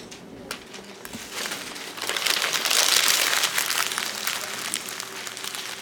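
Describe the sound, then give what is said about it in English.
Lots of paper crinkling and crumpling at once as students in a classroom ball up their written responses into paper balls at their desks, a dense crackly rustle from many sheets, swelling louder in the middle before easing off, with no talking. “I want you to take your response, make sure your name is on the top of it, and then crumble it up into a paper ball that's going to sit on your desk.”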